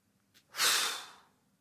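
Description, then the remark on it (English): A deep breath taken as a relaxation breathing exercise: a faint intake followed by a long, airy exhale that swells quickly and then fades out like a sigh. “Exhale, release. Inhale, take in.”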